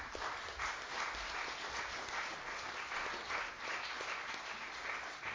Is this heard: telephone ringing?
no